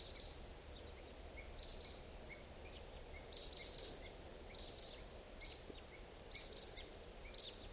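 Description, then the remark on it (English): Repeated short, sharp 'kip' calls of two type 2 red crossbills at 6:55 in the morning, coming in clusters of two or three every second or so, high-pitched and faint over a steady low rumble of background noise. “It's 6:55, and I hear crossbills, type 2s coming around.”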